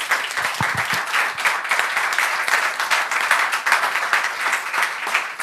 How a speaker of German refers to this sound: Dann machen wir erstmal kurz einen Szeneapplaus natürlich für unsere 6 Kandidatinnen. Applaus.